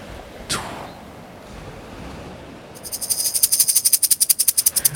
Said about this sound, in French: J'entends les oiseaux. La mer.